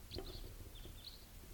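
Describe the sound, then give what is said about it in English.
Type 4 bird calls from a pair of type 4 birds, one a juvenile: several short, high, faint chips spaced irregularly over about a second and a half, set against a steady low background rumble. “Looks like a pair of type 4s and maybe another type 3 somewhere.”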